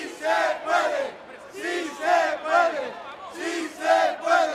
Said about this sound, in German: Si se puede, ja, wir können, rufen Anhänger von Podemos vor 3 Jahren vor dem Kongresszentrum von Sevilla, in dem die Partei ihren ersten Geburtstag feiert.